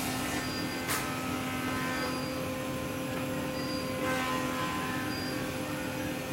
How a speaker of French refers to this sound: Pour découvrir Détroit, rien de tel qu'une balade en People Mover. Le People Mover, c'est un tramway aérien qui tourne autour de Downtown. Il a été construit en 1993 seulement, et il est destiné à transporter les employés des bureaux